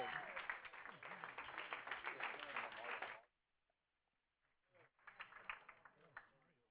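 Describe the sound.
An audience claps and applauds steadily for about three seconds, dense, welcoming a speaker coming up to give a morning teaching, then it cuts off into near silence before a voice and some scattered sounds return.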